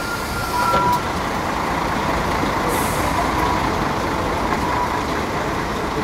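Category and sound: vehicle, city bus driving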